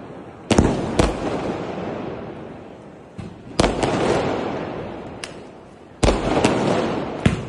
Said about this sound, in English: Fireworks lit up the sky in the Indian capital last night, but they came at a huge environmental cost.